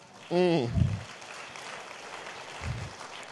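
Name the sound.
audience hand clapping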